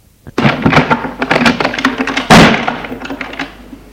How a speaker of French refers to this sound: Tout à coup, la porte du bureau de son grand-père s'ouvre.